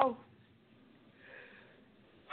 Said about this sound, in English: I'm sorry. I'm trying not to sneeze.